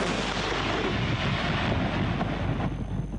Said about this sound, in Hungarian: Ez az izraeli harckocsi itt Metulla városka fölött egy domboldalról a szemközti libanoni települést, Kafr Killát támadja.